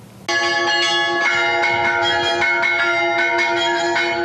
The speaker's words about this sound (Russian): Звон колокола выражает праздничную торжественность важнейших мест богослужения. Великие и воскресные праздники он выражает духовную радость верующих.